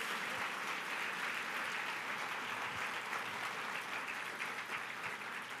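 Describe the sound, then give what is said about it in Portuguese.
A large group claps loudly and steadily for Jesus, a dense wall of applause at a constant level for several seconds without any speech. “Dê para Jesus uma forte salva de palmas”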